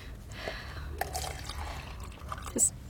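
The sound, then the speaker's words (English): Coffee splashes and trickles steadily into a cup, with a few brighter drips and a small clink near the end, over a low room hum. “More coffee?”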